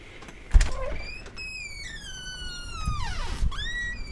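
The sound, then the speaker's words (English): A door latch clicks, then the door swings open as people go outside, with a long, high, squealing creak that slides downward in pitch over a few seconds, with no one speaking. “Door test.”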